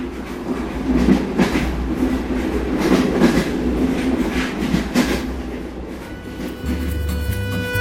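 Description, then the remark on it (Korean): A mountain railway train from Kleine Scheidegg to the Jungfraujoch observatory station rolls steadily along the rails, a continuous low rumble with periodic rhythmic clacks from the wheels, with no voices. “클라이네 샤이덱에서 열차를 타고 유럽의 지붕 융프라우 유후 전망대역으로 가게 된다.”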